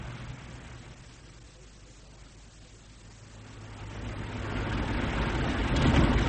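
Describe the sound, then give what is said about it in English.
A well-tuned car's engine drones steadily as the vehicle drives, followed by a grey car, the low rumble dipping briefly before building louder toward the end as it accelerates. “Someone has led you a well-tuned car, Haywood. But they're still on our tail.”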